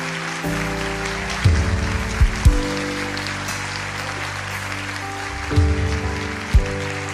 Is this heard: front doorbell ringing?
no